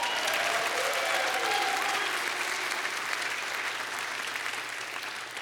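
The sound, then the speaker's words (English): A church audience at Westminster Chapel claps steadily, a dense, even wash of many hands sustained for several seconds before easing slightly toward the end, with no voices rising above it. “Just feel free to clap whenever you want, okay?”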